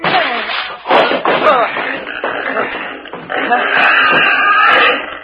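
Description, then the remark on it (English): Straining grunts and heavy shoving as two men force open a locked stateroom door together, with a few dull thumps and a rough, scraping noise that grows steadier toward the end. “The door's locked. That's right. That won't stop us. You going to break in?”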